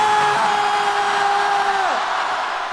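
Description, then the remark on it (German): After a countdown from three, a large crowd screams one word together as loud as they can, with phones on calls so others can hear. It is one sustained, dense wall of voices, with a few higher sustained cries standing out before they break off near the end. “Ich zähle von 3 runter und dann schreien wir alle, so laut wir können, ja.”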